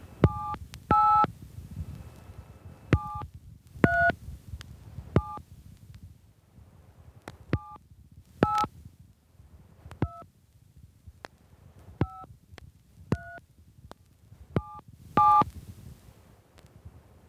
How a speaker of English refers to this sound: Spell the artist or group's name on your phone keypad. First name first, using 7 for Q and 9 for Z.